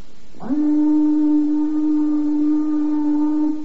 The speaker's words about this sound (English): There it goes, the old 5 o'clock whistle. And it couldn't come too soon, believe me.